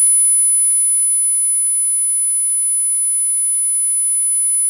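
A steady, piercing high-pitched sine tone holds constant for about five seconds, fairly loud and unwavering, with no other sounds or voices.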